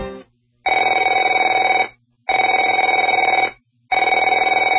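A telephone rings in three long bursts of about a second each, separated by short pauses. The ring is bright and buzzing, loud and steady, with no talking over it.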